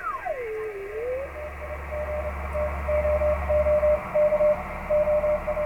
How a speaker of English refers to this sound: The thing about Morse code is there's texture to it. Like that's machine-driven code. It's too perfect. When real people send code, there's a little, everybody has a little swing to it.